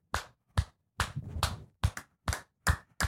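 Hand clapping with the fingers spread: about nine loud, sharp claps in an uneven rhythm, some coming in quick pairs, with short silences between them and no talking.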